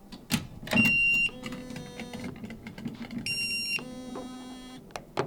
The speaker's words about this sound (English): demonstrates by pulling on a spool of fishing line under a mock tip-up and triggering the spring-loaded flag.